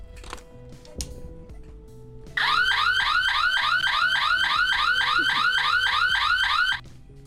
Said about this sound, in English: If we had a burglar alarm ringing, and we tripped the other burglar alarm accidentally, you wouldn't be able to hear the real burglar alarm because the other one would be ringing so loudly.